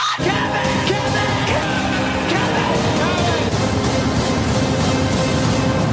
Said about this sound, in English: Did you mean it? Was that a real cheer for me?